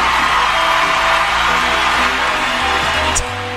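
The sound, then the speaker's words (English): A big studio audience cheers and whoops in a loud, steady roar for several seconds in the intro of the game show Know Your Onion, with a low musical bass line stepping underneath before the noise drops slightly at the end. “I like the audience there. A nice big crowd here.”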